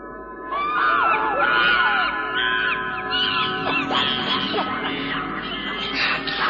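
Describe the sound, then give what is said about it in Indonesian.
A loud chorus of eerie monkey calls, many shrill swooping hoots and cries overlapping continuously for several seconds with no one speaking. “Ah, suara itu datang lagi. Itu memang suara-suara monyet.”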